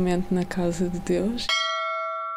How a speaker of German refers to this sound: Wenn der Gläubige eintritt, läutet er diese Glocke, um zu zeigen, dass er da ist.